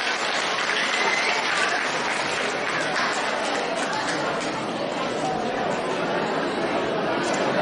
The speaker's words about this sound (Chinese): 让我们再次用掌声感谢卢军宏台长为我们看图腾。